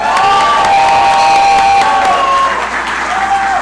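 Sustained audience applause with cheering and a few high shouts rising above it in Buffalo, honoring two distillery owners who made hand sanitizer; a loud, dense wash of clapping that holds steady throughout.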